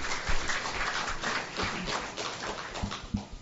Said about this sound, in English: Kids, come down the front. Give a hand to our kids. Yay!